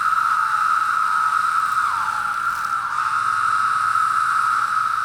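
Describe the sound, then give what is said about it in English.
A dense chorus of periodical cicadas of Wisconsin's brood in Lake Geneva, Wisconsin, forms a loud, steady, high droning whine that holds unbroken for the whole stretch, with faint wavering pulses rising and falling underneath. “I found these periodical cicadas to be weirdly relatable.”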